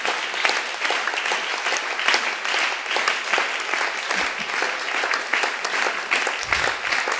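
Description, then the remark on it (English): An audience claps their hands together to thank God, sustained, dense applause, a steady crackling wash of many overlapping claps at an even loudness for several seconds, with no one speaking. “Had a hand clap to God, we're thanking him.”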